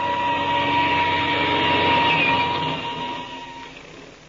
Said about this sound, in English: We've got to be in the air. I'll start the engine. We'll take off.